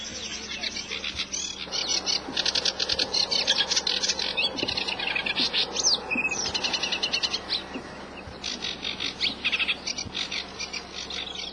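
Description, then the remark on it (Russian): Reed warblers chatter nonstop in dense, raspy bursts in the shade of riverside willows over the quiet Sorot River beyond a mill, a busy stream of churring and scratchy notes, with a soft outdoor hum underneath and no voices. “За мельницей, над тихой Соротью, в тени прибережных ив безумолку трещат камышотки.”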